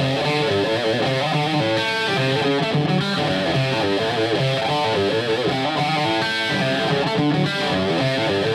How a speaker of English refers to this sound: Into something a little more metal. To more of a 1980s distorted guitar sound.